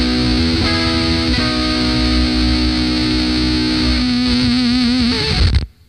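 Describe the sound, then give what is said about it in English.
A heavily distorted electric guitar, played through a tube distortion pedal that works through a gas-filled tube, sustains a thick, buzzing note with a warbling bend, then the pedal's gate chokes it off abruptly in a brief sputter, leaving silence. “It has a really strange way of shutting up.”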